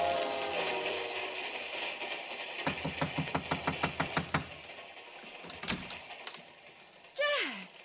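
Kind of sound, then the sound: vehicle, train running on rails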